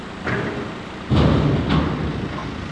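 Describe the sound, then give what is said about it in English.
Construction work at Rocky Mountain Institute's 15,000-square-foot Innovation Center building along Two Rivers Road in Basalt, as a crew hammers, digs and paints: a few irregular heavy thuds and knocks over a steady, low rumbling noise, and no talking. “A construction crew is busy hammering, digging, and painting.”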